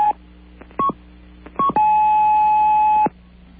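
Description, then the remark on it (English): Telephone keypad touch-tones: three short, clear beeps spaced unevenly, followed by one long sustained tone lasting over a second, fairly loud against a faint hum. “Well, some real interesting beeps there, but no real information, even though it was in Spanish, I'm sure.”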